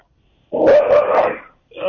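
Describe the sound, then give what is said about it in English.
A dog in the background lets out a quick run of about three loud barks that blur together, then a short pause and another brief vocal sound. “You got to try to hear my dog in the background.”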